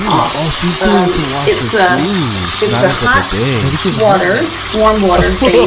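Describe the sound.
Water runs steadily from an outdoor foot rinse shower near the beach, with adjustable warm water, a constant hiss and spatter that continues under someone talking throughout.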